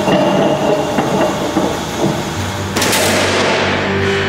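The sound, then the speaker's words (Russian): Steady mechanical rumble and hiss, then a single sharp, powerful cannon shot cracks out near the end as a 30 mm armor-piercing tracer round is fired at a 4S22 explosive reactive armor element in a test, followed by a sustained roaring wash of noise. No one speaks. “Сейчас мы испытаем этот элемент путем воздействия выстрелом бронебойно-трассирующего 30-миллиметрового снаряда.”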